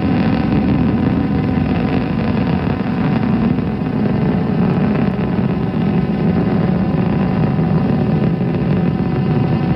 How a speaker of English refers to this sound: As you can hear, the rocket's roar is at its peak